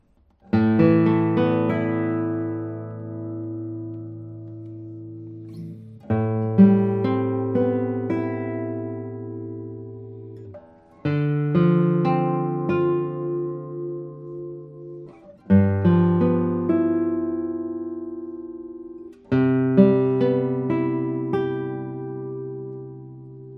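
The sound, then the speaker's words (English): A Kazuo Sato acoustic guitar with a spruce top and Madagascar rosewood back and sides rings out five full chords or tones, each struck firmly then left to sustain and fade slowly for several seconds before the next. Rich, warm harmonics, no voices. “I think also this guitar has a very elegant tone, and this guitar is also very well breathing.”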